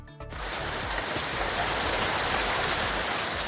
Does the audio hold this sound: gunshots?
no